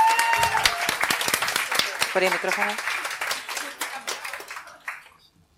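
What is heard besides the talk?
audience applause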